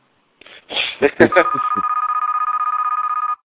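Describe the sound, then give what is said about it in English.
A brief burst of vocal sound gives way to a loud telephone ring, a rapid electronic trill that holds steady for about two seconds before cutting off. “Who needs to get that?”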